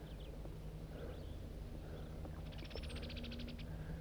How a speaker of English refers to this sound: No, I don't think that's a flock of crossbills. I think it's just blackbirds.